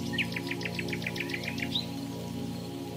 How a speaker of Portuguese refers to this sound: Para começar, nós estamos em uma casa na montanha. Está chovendo lá fora. Os pássaros estão cantando.